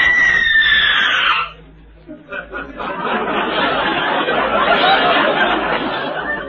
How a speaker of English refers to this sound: she's the lady who's going to do the screaming in my mystery